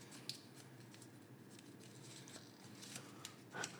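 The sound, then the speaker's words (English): Crinkly rustling of a crumpled paper slip being unfolded, fairly quiet, with scattered sharp crackles and a louder crinkle near the end; no one speaks. “This is crumpled. Hey. This is well crumpled.”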